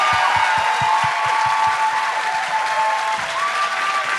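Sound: audience applause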